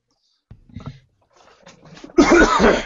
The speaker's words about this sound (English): Excuse me. Sorry about that. I'm still coming over this cough for like the last 3 weeks.